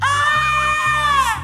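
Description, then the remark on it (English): A loud, shrill scream held steadily for about a second and a half, wavering slightly in pitch, with a low steady hum underneath. “He heard a loud scream”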